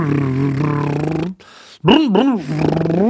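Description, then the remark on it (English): A voice imitates a car's motor noise, like the simulated motor noise of a Prius: a steady, buzzing low drone, a brief pause with a breathy hiss, then a loud, wavering hum that swoops up and down in pitch before settling. “maybe the Prius actually has like a little simulated motor noise so that you don't just mow somebody down in a parking lot.”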